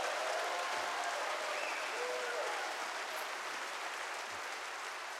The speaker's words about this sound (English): Everybody give him a hand clap of praise, and I'll...